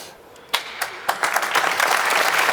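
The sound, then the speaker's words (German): A few isolated claps ring out, then quickly swell into a steady, dense patter of audience applause for SC Freiburg that continues to the end without any talking over it. “Da dürft ihr ruhig mal klatschen.”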